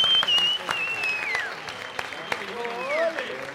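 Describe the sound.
An audience claps steadily in a dense wash of applause for a few seconds, with shrill whistles gliding over it and faint cheering voices mixed in.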